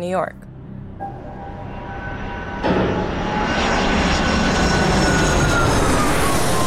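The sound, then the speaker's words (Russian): Steady roar of an airplane engine with a high whining tone, swelling louder a few seconds in and holding at full power; a voice is briefly heard at the very start. The plane is flying to New York on 30 July. “30 июля я села в самолет до Нью-Йорка.”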